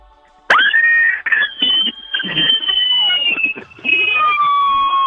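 A loud, piercing human scream bursts in after a brief silence and holds for several seconds, very high-pitched and shrill, wavering slightly and breaking up near the end.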